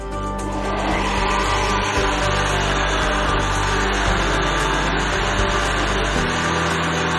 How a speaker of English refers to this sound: And then we're gonna add around about a cup and a half of the mixture from the water. So about a cup and a half. And we're gonna blend it all up.